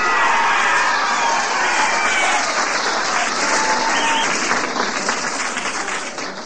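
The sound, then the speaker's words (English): A loud, sustained roar of crowd applause and cheering at an investiture ceremony, dense clapping mixed with shouting voices, holding steady for several seconds before easing slightly at the end. “And everybody was roaring so much I couldn't hear my name.”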